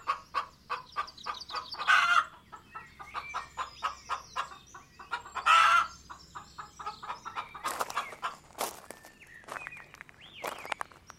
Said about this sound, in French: Regarde! Ce sont les poules qui caquettent.